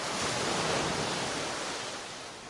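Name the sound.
ocean waves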